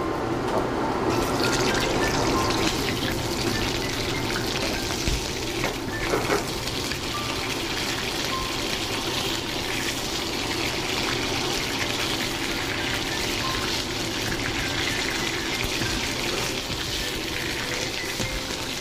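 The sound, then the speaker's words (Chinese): Lamb shoulder chops sear briefly in olive oil in a hot pan to brown the surface, a steady, dense crackling sizzle that holds an even loudness from start to finish, with no one talking over it. “稍微煎香就可以了。”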